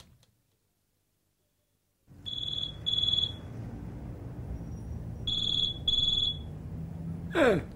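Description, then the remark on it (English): A telephone rings unanswered in two bursts of high, shrill double rings, each pair followed by a pause, over a low background hum. A brief rising noise follows at the end. “Why are you not answering the phone”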